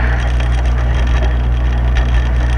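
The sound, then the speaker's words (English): A woodpecker pecking at a tree: dense, steady wooden knocking and crackling that runs without pause over a low, constant hum, with no voices. “The bird that goes up to the tree and starts pecking. Woodpecker?”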